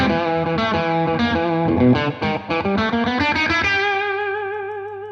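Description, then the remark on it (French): A distorted electric guitar riff: choppy, rhythmic stabs of gritty, harmonic-rich notes, played loud with no talking, ending on a chord that rings out and slowly fades. “Voilà, ça c'est un riff”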